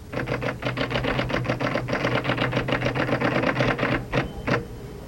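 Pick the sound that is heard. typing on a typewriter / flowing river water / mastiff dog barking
typing on a typewriter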